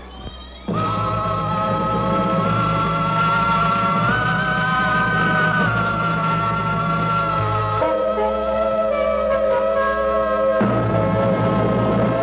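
A pop song plays on the radio during the Hi-Fi Club broadcast from Holy Rosary Academy, starting after a brief quiet moment and continuing at a steady, full level with sustained harmonized tones and shifting chords, no talking over it.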